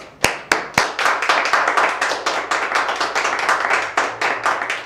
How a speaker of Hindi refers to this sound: मैं आवाज़ देता हूँ, जोरदार तालियों से उनका स्वागत